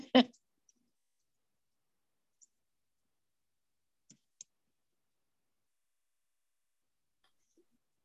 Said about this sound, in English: I'm typing with one hand because I'm holding my phone.